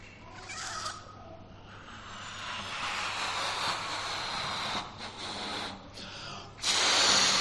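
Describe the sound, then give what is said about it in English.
A balloon being blown up: long, breathy rushes of air with a faint rubbery whine, a brief pause between breaths, and a louder hissing burst at the end. “Try and blow this up again.”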